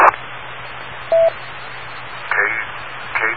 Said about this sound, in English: do wait for the beep